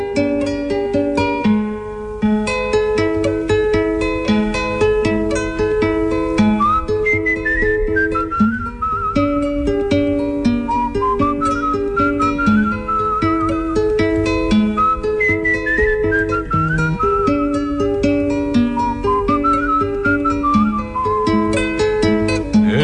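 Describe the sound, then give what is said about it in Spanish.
A soft, tired whistled melody drifts and glides over steady instrumental music, the tune rising and falling slowly in long, unhurried phrases. “Si hasta el monte se ha cerrado en un silencio profundo, porque se juega un segundo con su silbido cansado.”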